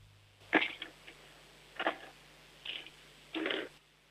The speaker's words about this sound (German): Jetzt hätte ich gerne, dass du vielleicht mal ein paar Stifte nimmst und sie über den Tisch rollst, so dass wir sie hören. Oder leer vielleicht einfach mal deine Stiftebox aus oder so. Ja, alle deine Stifte hören.